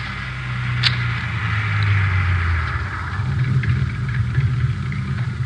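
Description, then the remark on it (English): A car engine rumbles low and steady, its pitch shifting slightly as the vehicle rolls to a stop and idles, with a faint click partway through. “you know where to pull up.”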